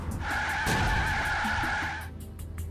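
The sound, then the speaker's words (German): Tires screech loudly for about two seconds as a vehicle skids while a jeep rams a station wagon, with a heavy jolt of impact early on and a low engine rumble underneath. “Plötzlich beginnt der Jeep, den Wagen zu rammen.”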